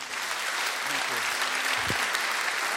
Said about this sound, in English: So let's put our hands together and welcome